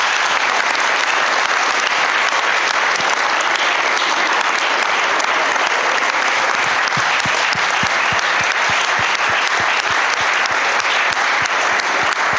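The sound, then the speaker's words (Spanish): At the close of a ceremony, a large audience claps for themselves, steadily and loudly for the full twelve seconds, a dense, continuous wash of hand claps with sharper individual claps popping through toward the end. “Terminamos el acto, si les parece, con un gran, gran aplauso para todos ustedes.”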